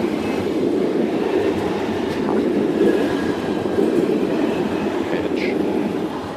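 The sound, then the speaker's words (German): A train rolls past beside a street, a loud, steady rumble of wheels and cars with faint squeals and clatter that holds constant throughout. “Während der Zug hier lang fährt, habe ich die Straße einfach mal überquert.”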